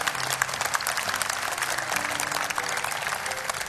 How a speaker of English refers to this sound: Give them a big hand clap as they go out. Praise the Lord for that.